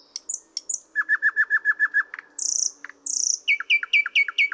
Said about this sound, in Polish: W śpiewie niektórych osobników przeplatają się zwrotki podobne do głosu Słowika Rdzawego. Są pozbawione znamiennego, suchego terkotu.